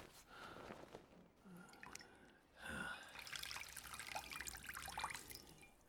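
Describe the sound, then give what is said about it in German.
Water trickles and drips from a cloth into a bowl in a bedroom, fairly quiet, with a brief pause before a steadier, slightly louder stream of splashing drops. No one speaks. “Sie stellte eine Kerze auf den Holztisch und griff nach der Schüssel mit dem Wasser und dem Lappen.”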